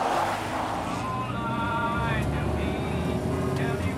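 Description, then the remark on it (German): A car drives steadily along a road through idyllic countryside in the Chesapeake Bay area on the US East Coast, its low engine and tyre rumble constant, with faint, indistinct voices mixed in beneath the noise. “Nur unser Wagen, mit dem wir unterwegs sind durch eine idyllische Landschaft.”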